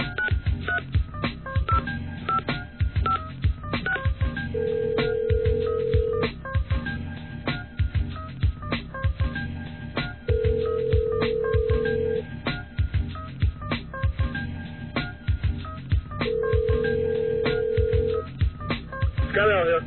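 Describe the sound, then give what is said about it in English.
Three long, steady telephone dialing tones sound at even intervals over a dense, busy background with a rhythmic pulse. Each tone lasts about a second and a half. “On that phone thing, Mostly Talk.”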